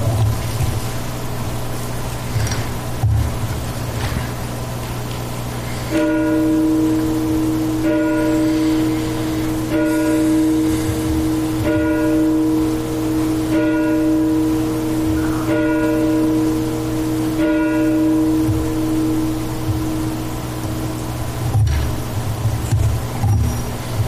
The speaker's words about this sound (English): Let us now pause for a moment of silence and the tolling of the bell.